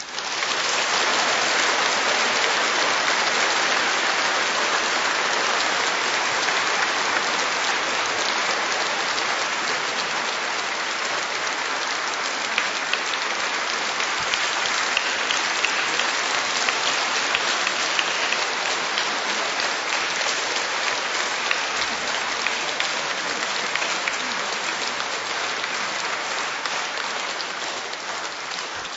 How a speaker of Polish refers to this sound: wiem, że jeszcze bardziej są oklaski poza nami, w różnych stronach naszej ojczyzny i na świecie.